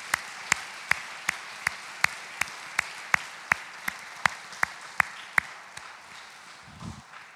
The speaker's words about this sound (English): Can we give our dads a good round of applause?